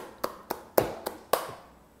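Five sharp hand claps at an uneven pace, moderately loud, each with a quick decay and no voices between them, applauding someone during a live stream on a channel.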